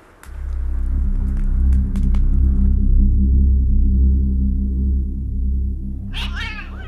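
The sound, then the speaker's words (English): An old cat named Greybo caterwauls loudly: a long, low, quavering moan that drags on for several seconds, then breaks into a sharp, high-pitched yowl at the end. “Greybo, come back, you cantankerous old cat.”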